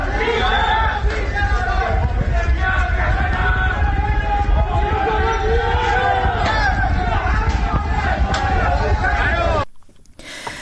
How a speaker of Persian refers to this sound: صدای اعتراضاتی که میشنیدید شب گذشته بود در محلات مختلف استان تهران بود که میشنیدید،